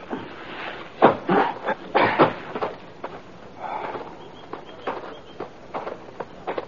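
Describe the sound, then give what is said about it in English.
Hooves of horses being tethered to spruce saplings clop and shuffle in an irregular pattern of dull, thudding steps, a few louder stamps early on and then softer ones, with no one talking. “We tethered our horses on a couple of spruce saplings, moved into the cave entrance.”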